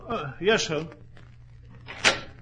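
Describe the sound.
A person speaks briefly, then after a short pause a single sharp door sound rings out, a door being pulled open for a visitor, with a faint hum underneath.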